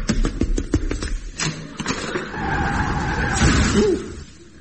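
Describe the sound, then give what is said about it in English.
A rapid burst of clattering taps gives way to a loud, sustained tire screech as a bus skids while running a person over, fading out abruptly at the end. “I mean, I could walk out of here and get run over by a bus.”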